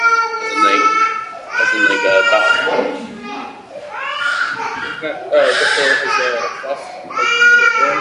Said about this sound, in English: No, 1 second. I hear a screaming kid. 1 second.